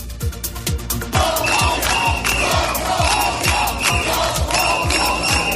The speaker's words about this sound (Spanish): Todos somos Nuria, ese ha sido el grito a favor de la víctima, es el grito que han coreado una treintena de personas que se han manifestado a las puertas de la cárcel catalana de Brian II.